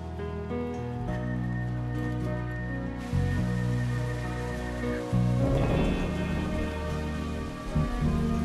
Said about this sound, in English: In torrential rain, without a coat, Nikki is quickly drenched.